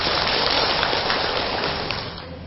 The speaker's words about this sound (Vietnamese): Xin tất cả hãy cho một tràng vỗ tay thật là lớn để thể hiện tinh thần sảng khoái, sự lạc quan và nở những nụ cười thật là vui tươi để trải nghiệm hạnh phúc màu nhiệm bây giờ và tại đây. Cho một tràng vỗ tay thật lớn nữa nào.